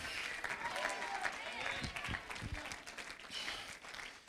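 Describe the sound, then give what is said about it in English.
An audience claps together in a dense, steady wash of hand claps that continues throughout, with some voices mixed into the noise. “Won't you just go and clap your hands and say, devil, get out of my mind.”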